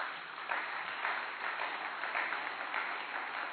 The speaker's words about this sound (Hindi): ताली बनती है कि नहीं।